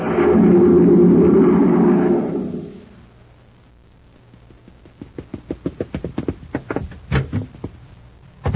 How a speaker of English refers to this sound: A cyclone? Just Danny Fields rushing out the door to the grocery. He's just heard there's a swell surprise inside of every new package of Chex.